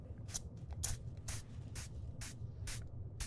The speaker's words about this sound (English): Okay, we don't want to scratch too much. Let me use that spray I was talking about for your irritation.